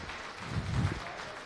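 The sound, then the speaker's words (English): A short burst of audience applause welcoming a speaker about to talk on expanding GGML hardware support with the Vulkan API, a dense wash of many hands clapping at a steady, moderate level with no voices over it. “Yeah, give thank him a round of applause.”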